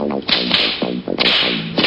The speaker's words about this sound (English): Slap your face! Slap your friend!